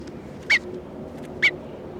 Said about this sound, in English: This is bird 301 being handled.